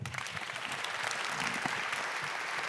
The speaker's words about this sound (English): Please give a warm round of applause to Thomas.